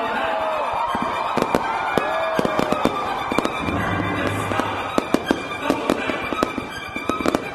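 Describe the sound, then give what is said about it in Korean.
Fireworks burst in the night sky in a rapid, irregular barrage of sharp bangs and crackles, some louder than others, at the opening ceremony of the 2017 Incheon Pentaport Rock Festival in front of the main stage, over a steady background roar of festival noise. “화려한 불꽃이 밤하늘을 수놓자 페스티벌의 열기가 절정에 달합니다.”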